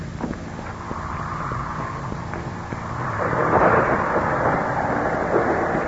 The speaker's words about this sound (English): The storm is increasing again. It sounds almost as if the voice of the heavens is protesting.